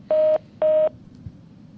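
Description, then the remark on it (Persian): Two short, steady electronic beeps of telephone keypad tones, evenly spaced and clear, as a caller is put on hold and transferred to the technical staff in the studio, followed by quiet line hiss with no talking. “آره، اینو لطف کنید من میذارم تو رو هولد، از بچه های تکنیکال بپرسید که تو استودیو هستن، جواب تلفن شما رو میدن.”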